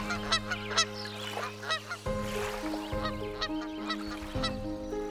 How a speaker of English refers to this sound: When operational, the coal plant's heated water output prevented the lake from generally freezing during the winter months, attracting large numbers of migrating giant Canadian geese.